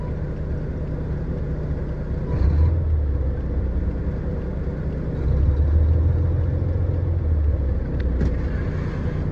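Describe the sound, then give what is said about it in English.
A car engine idles with a steady, low rumble, its pitch swelling twice into brief rough surges before settling back. No one speaks. “This motherfucker doesn't like idling.”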